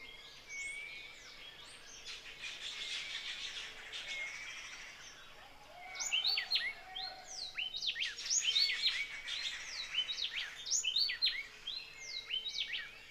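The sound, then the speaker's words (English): Several birds sing and chirp in an outdoor setting, their bright, overlapping calls growing busier and louder in the second half over a soft, steady background hum. “The river, the birds, the insects, they're our neighbors, and they're talking with us.”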